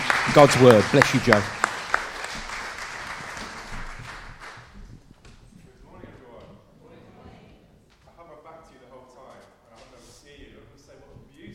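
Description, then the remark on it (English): A burst of crowd applause welcoming a man as he comes forward, loud and dense for about two seconds, then thinning into scattered claps that fade beneath a man's voice speaking over it. “Just give him a round of applause as he comes.”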